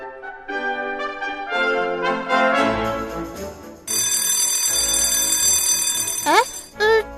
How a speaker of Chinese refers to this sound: 铃声是？ 是休息时间到了，同事们会放下手上的工作休息一下，喝点饮料吃吃点心。